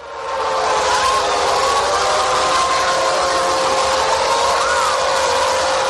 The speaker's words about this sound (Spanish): Una alarma de un bombardeo, por desgracia, tan de actualidad.